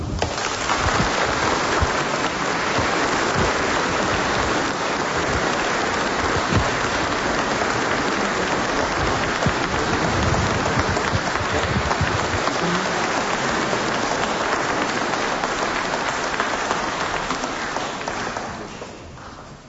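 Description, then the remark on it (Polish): A large crowd applauds steadily in a church, a dense sustained clatter of reverberating clapping that holds for nearly twenty seconds before starting to fade, greeting a bishop on his consecration as flowers are presented to him. “Brawa.”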